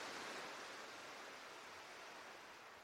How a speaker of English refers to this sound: See the ocean waves as they roll in and roll out. The rhythmical sound of the ebb and flow washes over you like a soothing lullaby.